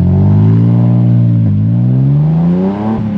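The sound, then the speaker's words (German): A car carrying a reporter revs up loudly and pulls away, its engine pitch climbing steadily with brief dips as it shifts gears, with no one talking. “Zu derartigen Genres ist aber auch der Podcast der Wasserzeitung in der Lage und hat erstmals seinen Chefreporter fürs Mythologische ins Auto gesetzt, und zwar, Ach ja, mich.”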